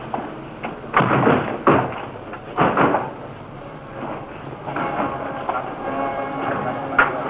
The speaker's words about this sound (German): Ganz langsam rollt der Wagen des Führers heran. Die Wagentür wird geöffnet.